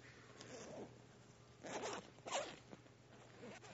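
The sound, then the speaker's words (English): Several quick zipper pulls rasp across a bag, bursts of scratchy sound coming in short uneven runs with brief pauses between them, no one speaking. “If I can figure out, I got too many zippers on here.”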